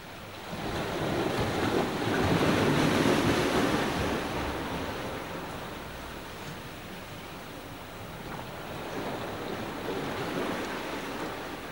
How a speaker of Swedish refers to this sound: Och det var vågbrus.